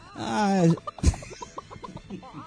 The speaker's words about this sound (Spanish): Yo escucho un ruido. Es raro que se hayan volado porque la gallina no vuela.